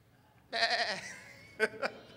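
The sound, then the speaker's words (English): A person imitates a sheep, letting out a drawn-out, wavering bleat followed by two short clipped bleats, fairly loud with no other sounds around. “And so if the Holy Spirit would give the voice of an animal, shouldn't he give like the voice of a sheep?”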